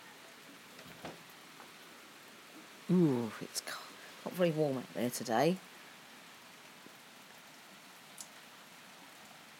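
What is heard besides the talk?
rain falling outside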